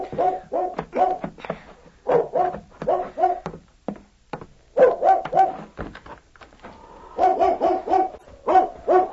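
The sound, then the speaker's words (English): A dog barks repeatedly in quick clusters of loud yelps and woofs, pausing briefly between bursts over several seconds, with no talking; the dog is bedded behind a shed, at almost midnight. “Bobby was awakened by the bark of a dog he had bedded behind the shed”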